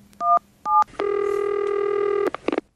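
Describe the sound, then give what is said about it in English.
Two short touch-tone keypad beeps as a phone number is dialed to call a man, followed by a long, steady buzzing tone and a few quick clicks at the end. “We're going to call a guy who, as the Homeowners Association, and the gist of it is that he's walking his dog and a neighbor complained because he let his dog pee on the neighbor's garbage cans.”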